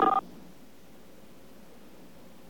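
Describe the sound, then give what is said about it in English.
A single short touch-tone beep from a telephone keypad key press on an automated phone menu sounds right at the start, crisp and fairly loud, then gives way to faint, steady line hiss. “Press 1 if you have a string of touch tones you'd like us to decode.”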